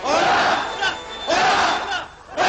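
A large crowd roars out a loud, thunderous triple hurrah in repeated swelling bursts, each shout rising and fading before the next, with no other voices over it.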